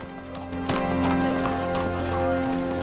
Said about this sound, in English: Once they've climbed down the improvised rope, Marion mounts a horse, sitting behind Robin with her arms around him. They look at each other, then ride off through Nottingham town.